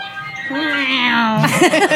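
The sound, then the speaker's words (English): A single voice mimics the music of a Mr. Softy ice cream truck that sped past on the Grand Central Parkway, holding a long sung note before breaking into a quick, wavering run of notes, fairly loud with no other sounds. “And a Mr. Softy truck sped past me with that music playing. And it kind of, let's see if I can replicate it. It sounded like this.”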